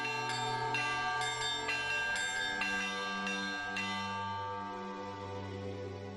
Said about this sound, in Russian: «Хотите услышать наши колокола?» – спрашивает настоятель храма, отец Дмитрий Блинов. И через несколько мгновений звучит даже не звон, музыка колоколов.